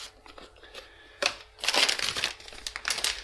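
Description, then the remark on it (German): Crinkly packaging rustles and crumples as a snack box is opened, starting with a sharp crackle, then a longer burst of dense, bright crinkling that fades in and out. No one speaks. “Und ich öffne diese Box.”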